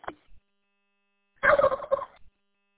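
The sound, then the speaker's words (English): A turkey gobble plays over a radio repeater when the transmission is unkeyed, one rapid, rattling warble lasting under a second, preceded by a short static click when the transmission opens. No one speaks. “Yeah, when you unkey and I unkey it, you know, you hear the turkey gobbler.”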